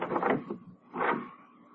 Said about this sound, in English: But me? I'll open the door a couple of inches. Be careful, huh? Yeah, very.